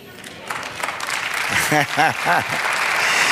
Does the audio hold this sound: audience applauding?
yes